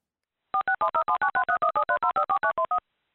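A rapid string of about seventeen touch-tone telephone beeps as a number is dialed for an outgoing call, evenly spaced and clear, with no voices.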